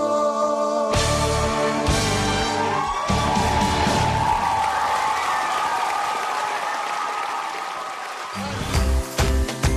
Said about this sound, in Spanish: Sí, a propósito de los vítores, los aplausos, los silbidos, actuaciones en vivo, ¿eh? Como esas que se dan en los shows, en las fiestas costumbristas o los eventos, ¿eh?